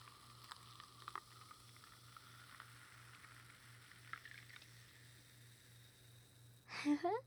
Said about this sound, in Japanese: シュワシュワっていい音してる。